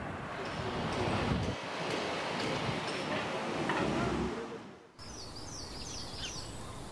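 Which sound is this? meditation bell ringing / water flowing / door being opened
water flowing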